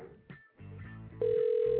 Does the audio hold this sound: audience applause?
no